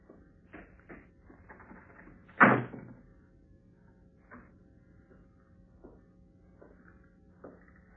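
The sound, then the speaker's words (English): A steady low mechanical hum of an elevator motor drones throughout, punctuated by scattered clicks and knocks and one loud clunk early on. “Oh, the motor.”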